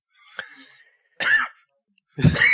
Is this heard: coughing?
yes